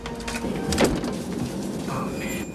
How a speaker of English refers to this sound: Cutter locks the toilet door.